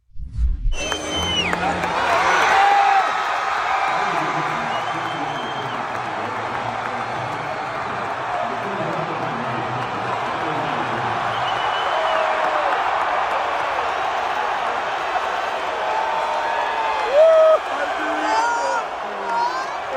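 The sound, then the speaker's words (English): A huge crowd at a college football game in South Carolina roars and cheers Donald Trump continuously, a dense wall of shouting and whooping that swells and holds steady for the whole stretch, with scattered louder yells cutting through. “And he went to this college football game in South Carolina and he was widely cheered.”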